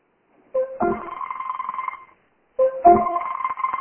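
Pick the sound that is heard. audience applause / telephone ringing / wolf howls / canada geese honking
telephone ringing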